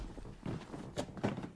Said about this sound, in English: Walking on creaky floor.